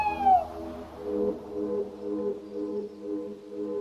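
An owl calls at night in Marvão, Alentejo, Portugal: a brief high, falling cry opens, then a steady run of low, mellow, wavering hoots repeating about twice a second at moderate loudness, with no voices.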